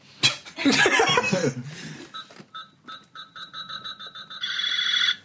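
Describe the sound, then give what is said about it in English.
Buzz's toy laser gun fires: a harsh crackling electronic burst, then a rapid string of repeated high-pitched zapping beeps that ends in a steady sustained tone, loud. “Buzz has just shot his laser gun.”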